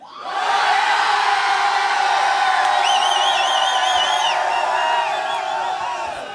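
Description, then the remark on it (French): A huge crowd of about 6,000 people roars together in one sustained, loud collective yell in one direction, building quickly and holding steady for several seconds, with a few higher voices whooping above the mass. “Mais les 6000, si on leur dit tous d'arrêter de boire et de hurler dans une seule direction, regardez comme ça fait.”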